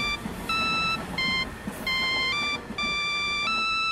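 A cell phone ringtone plays a bright electronic melody, loud and close, in short repeating phrases of stepped synthetic tones over faint background rumble.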